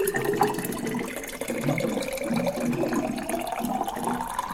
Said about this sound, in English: I gotta drink some more water from this bubbler.